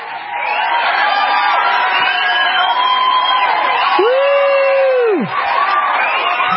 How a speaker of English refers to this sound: I'm going to say that 24-year-old Aaron Mueller, you deserve some applause from the live studio audience in Minnesota.